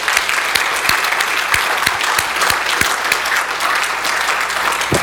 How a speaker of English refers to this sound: Would you guys stand up if you're going Bible drill this afternoon? Let's give them a big hand.